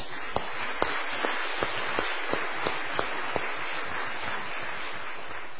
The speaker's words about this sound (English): Musicians and bagpipers, a round of applause is due.